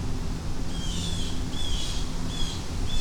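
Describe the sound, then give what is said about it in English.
Birds chirp in a steady back-and-forth, short high calls repeating about every half second over a constant background hiss and low rumble, with no one talking. “We got birds arguing or complaining about something.”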